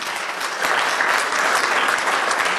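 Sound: audience applauding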